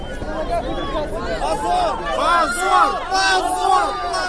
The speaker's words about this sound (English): The crowd there shouting, shame, shame, and they were dragging.